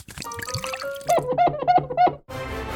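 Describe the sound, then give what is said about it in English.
A baking soda and vinegar mixture is poured out in a series of four gurgling, glugging blips, followed by a short burst of loud fizzing hiss. No one speaks. “Baking soda and vinegar?”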